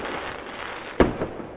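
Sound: fireworks exploding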